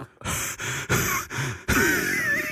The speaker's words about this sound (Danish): Det er jo, på et eller andet tidspunkt er det jo lækkert at lytte på den andens åndedræt, der ligesom bliver voldsommere.